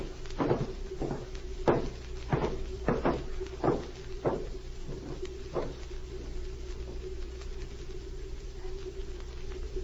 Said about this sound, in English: Set the mechanism. All ready. Close the door.